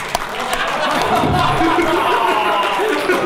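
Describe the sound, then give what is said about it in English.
A large crowd cheers and claps steadily for Norman Smiley, a dense wash of voices and applause that stays loud and unbroken from start to finish. “Have a hand for Norman Smiley.”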